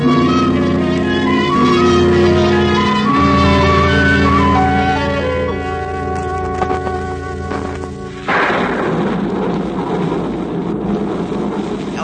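A thunderstorm breaks in after a stretch of dramatic orchestral music, with loud rolling thunder and steady rushing rain filling the last few seconds; no one speaks.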